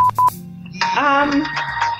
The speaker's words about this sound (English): That's a ringtone if I've never heard one. Oh, it's not a ringtone. It's a BBC News alert.